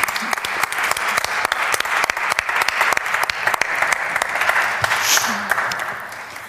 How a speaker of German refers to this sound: Schenken wir ihm gleich einen großen Applaus.